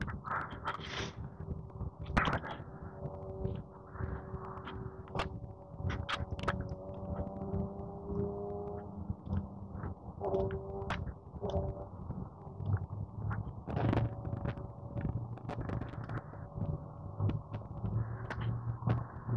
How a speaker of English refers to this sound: Somebody riding a motorcycle off on the highway.